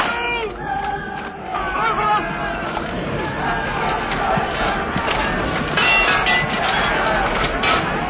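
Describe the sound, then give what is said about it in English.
A large crowd of Irish extras shouts and roars continuously while staging a battle scene in Ireland, with many overlapping voices and yells forming a dense, loud, chaotic din throughout. “And if you're staging a battle in Ireland with Irish extras, the problem you have is getting them to stop once you get them started.”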